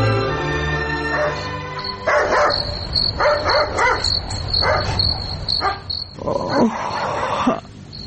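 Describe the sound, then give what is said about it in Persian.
A dog barks repeatedly in irregular bursts in the middle of the night, while a steady high cricket chorus trills continuously underneath, giving a nighttime outdoor feel. “اینکه چرا در نصف شب سگ جف می زند و بعدن چی اتفاق می افتد، این را در درامه می شنویم”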